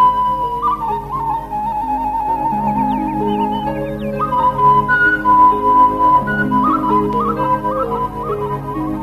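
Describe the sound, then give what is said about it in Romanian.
A small shepherd's pipe, blown quickly, plays a quick, wavering melody of bright, breathy notes, fairly loud, over a steady backdrop of lower sustained tones. “simțind că își pierde mai rău mințile, suflă repede în fluieraș.”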